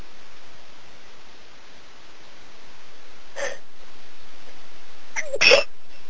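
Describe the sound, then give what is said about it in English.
A sharp, fairly loud sneeze bursts out near the end, after a softer, brief breathy sound a couple of seconds earlier, all over a steady hiss with no talking. “Bless you.”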